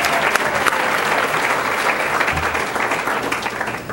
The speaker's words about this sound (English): So I think we really should give her a second round of applause because she's making it happen.